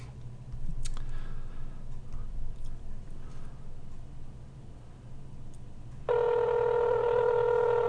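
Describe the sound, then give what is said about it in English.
A phone call being placed at 12 o'clock noon: faint clicks and ticks over a low electrical hum, then a loud, steady ringing tone suddenly starts near the end and continues without pause. “It's 12 o'clock, so let's call Peggy.”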